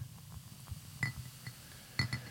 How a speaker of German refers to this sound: Ich näher ans Mikro. Ja. Beim Einschenken.